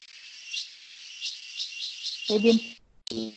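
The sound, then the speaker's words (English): A steady, high-pitched buzz of cicadas in the mountains drones through the whole recording with a faint pulsing shimmer, and near the end a man's voice briefly speaks over it. “So if you can hear the sounds, please excuse the insects, but there's a cicadas.”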